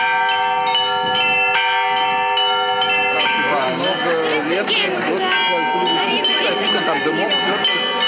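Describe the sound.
Church bells ring out in a rapid sequence of clanging strikes with long sustained tones, and after a few seconds a person begins talking while the bells keep ringing underneath.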